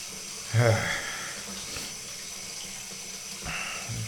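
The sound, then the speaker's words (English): Water pours steadily into a bathtub that is getting full, a constant rushing hiss with a couple of louder, splashy surges breaking through the flow. “And this bathtub is getting a little full, so I better dial back the water here a little bit.”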